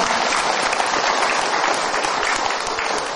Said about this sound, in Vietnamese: Cho một tràng vỗ tay để cho cô.